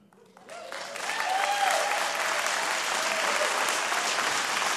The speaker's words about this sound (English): Your claps are very nice, but I got like a minute left.